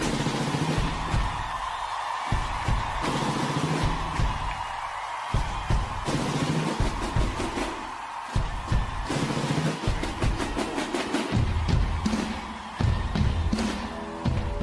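Military drummers pound out a steady, loud rhythm of sharp repeated beats while a large crowd roars and cheers throughout.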